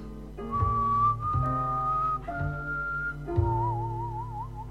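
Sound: man whistling a tune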